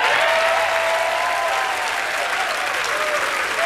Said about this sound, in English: Ladies and gentlemen, put your hands together